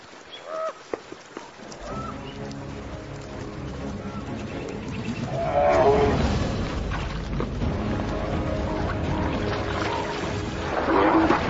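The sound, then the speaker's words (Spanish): A pair of hungry bears, desperate for a feast after hibernation, growl and roar as they fight, a continuous rough, throaty clamor that swells into louder bellowing bursts midway and again near the end. “Los osos hambrientos son violentos.”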